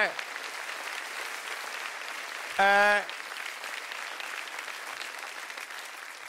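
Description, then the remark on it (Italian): An audience applauds steadily for several seconds, a dense, even patter of clapping, briefly interrupted by a short, loud harmonic tone midway through. “Volete fare l'applauso? L'applauso, fatelo.”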